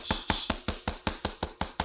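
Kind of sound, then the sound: impact, knocking on a door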